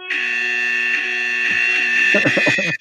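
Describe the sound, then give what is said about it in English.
A loud, harsh electric buzz, like a taser sound effect, played from a free buzzer app, drones steadily for about three seconds, with someone starting to talk over it near the end. “Taser. It's a free buzzer app, but now it's doing ads.”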